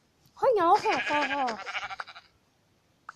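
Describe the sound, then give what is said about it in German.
A single loud sheep bleat with a wavering, quavering pitch that trails off into a fluttering stutter, followed by a brief faint click. “Oh, hallo Schaf.”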